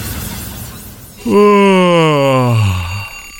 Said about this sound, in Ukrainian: Знову цей будильник. Злипаються очі, ненавидиш звук будильника.